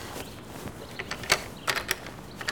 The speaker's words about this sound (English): Now look, the door blew open so hard that the doorknob left a hole in the wall. It's not even all that windy today.